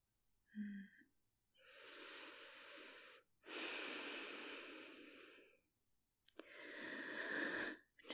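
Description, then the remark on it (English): Slow, deep breathing: three long, airy breaths, each lasting a couple of seconds with short pauses between, preceded by a brief nasal grunt. Loud and steady, with no talking. “Close your eyes and listen to my breathing, okay?”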